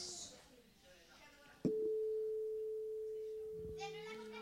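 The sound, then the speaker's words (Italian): A tuning fork is struck once, ringing out a pure, steady A that sustains evenly for several seconds, while children murmur and chatter faintly in the background. “Questo strumento è uno strumento che percosso dà un suono, che è la nota dalla quale poi noi prendiamo tutte le nostre”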